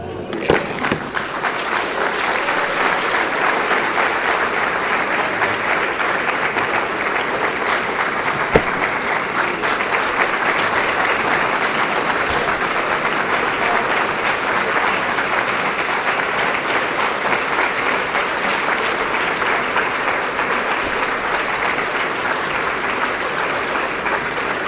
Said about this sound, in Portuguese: Mais uma vez, se vocês aplaudem no discurso, muito obrigado. Mas se vocês querem aplaudir o Senhor e celebrar porque Ele falou com vocês, façam isso e celebrem o seu nome.